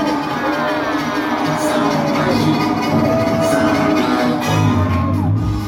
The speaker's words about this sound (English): The hall was set ablaze with the cheers and euphoric woos of the crowd. It was an unforgettable night for those who were there to see it.